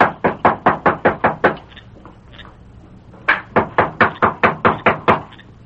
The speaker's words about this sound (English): That's his room overhead. I'll knock.